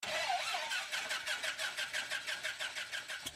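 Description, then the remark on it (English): A small airplane engine cranks to start, with a fast, steady train of rhythmic chugging pulses, fairly loud, and no voices. “The plane begins to come to life.”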